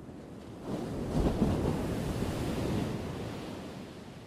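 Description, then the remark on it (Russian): Ocean waves crash onto a sandy beach in a steady, rushing roar, high waves rolling in one after another, one surge swelling louder before settling into continuous surf. There is no talking. “Он накатывал упругие высокие волны и швырял их на песок.”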